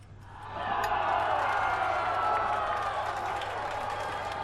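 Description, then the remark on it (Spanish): A crowd erupts in victorious shouting after a goal, the roar of many voices swelling within half a second and holding loud and steady, a dense cheering din with no single voice standing out. “Ainara hace un gesto de fastidio al escuchar los gritos de victoria.”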